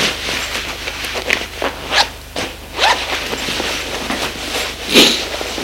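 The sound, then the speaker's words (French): Quick zipper pulls and rustling fabric as a man undresses in his bedroom at home, with several sharp bright rasps spread across a few seconds over a low steady hum, no voices. “Se déshabille.”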